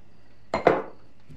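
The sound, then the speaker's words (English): Two quick clatters of dishes knocking together as they are being washed, fairly loud, the second ringing out a little longer before quiet returns. “Let's just finish the dishes, yeah?”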